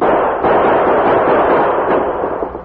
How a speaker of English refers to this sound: Gunman's victim staggered a couple of steps and dropped behind the shed, while the Lone Ranger and Tonto, dashing downhill, maintained gunfire at the distant rock pile. Their bullets gave the unknown ambusher little opportunity to return the fire